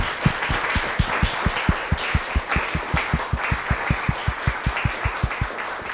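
An audience applauds steadily for several seconds, a dense wash of clapping over a regular, low thumping beat about four times per second. No one speaks.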